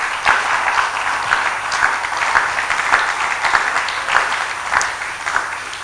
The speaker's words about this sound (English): Oh, I think you should clap and shout.